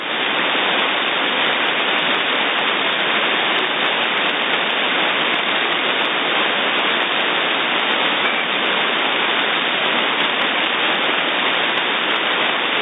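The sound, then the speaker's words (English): A steady, loud wash of radio static fills the whole stretch, an unbroken hiss with no clear voices, as if two transmissions are stepping on each other and cancelling out. “Well, we had another little bit of a collision there”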